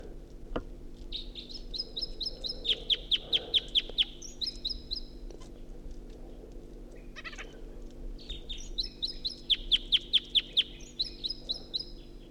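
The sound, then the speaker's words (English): A wild bird sings two similar phrases, each a run of high, bright whistled notes building into a rapid series of sharp chirps, with a low steady hum underneath. “This is the second wild bird.”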